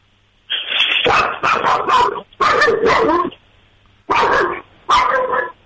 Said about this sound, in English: That's good. That's some good barking. Sorry. So yeah, that's every time the doorbell rings or the doorbell rings on TV. That's great. That was some solid barking. Yeah, he's an angry little guy.